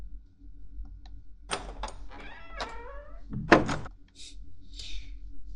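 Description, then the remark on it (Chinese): A lock clicks and rattles a few times, then a door creaks open and lands with a solid thump, followed by faint rustling, with no one talking. “怎么这么久才开门啊？”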